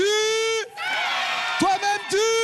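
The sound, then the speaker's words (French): A lively audience at an event's 14th edition cheers and applauds itself with loud, drawn-out whoops and yells rising over a dense wash of noise that could be applause, energetic throughout. “Applaudissez-vous, merci beaucoup et à très vite.”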